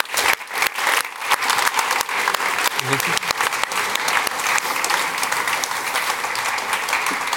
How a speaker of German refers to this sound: Nochmal einen Applaus